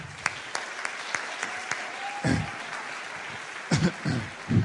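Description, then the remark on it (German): Audience applause for three experts up front, a steady dense patter of many hands clapping at moderate loudness, with a few sharper individual claps and brief low voice sounds rising through it. “Applaus für die 3.”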